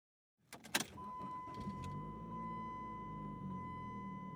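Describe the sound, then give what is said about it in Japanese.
A car engine cranks over with a few sharp clicks and catches, then settles into a steady low idle with a faint electronic tone above it, as the dashboard clock lights up showing 15:00. “エンジンをかけると、ダッシュボードに組み込まれた時計が15時を表示した。”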